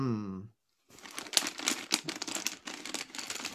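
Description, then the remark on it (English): A short bit of speech, a brief pause, then continuous crinkling and rustling as someone rummages through a plastic school kit looking for a pink eraser, with irregular sharper crackles for several seconds. “There's a pink eraser. Let me see if I can find it.”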